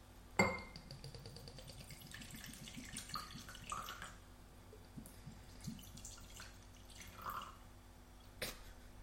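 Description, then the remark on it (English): Whisky poured from a bottle into a glass as the bottle is wrung out for the last drops: a sharp clink, then a quick run of soft glugs tapering into scattered drips, and another clink near the end. Quiet throughout, with no voices. “trying to wring the bottle out to get every single last drop out of that.”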